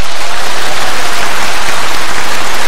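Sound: round of applause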